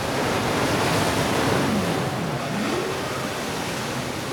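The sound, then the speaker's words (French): A steady, roaring wash of ocean surf fills the whole clip, loud, with waves churning continuously rather than breaking in distinct crashes; no voices are heard. “C'est elle qui agitait les vagues avec ses cheveux.”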